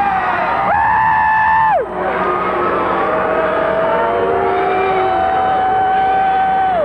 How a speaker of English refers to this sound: I want to understand the general consensus of you're all booing. Why? Is it because you're mad because I thought that you were capable of that?